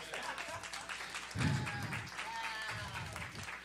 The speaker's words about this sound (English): All right, amen. Everybody clap it up for them.